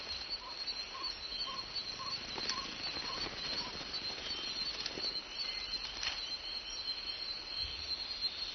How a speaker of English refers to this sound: These giant hawk moths are the drinkers the tree needs to attract.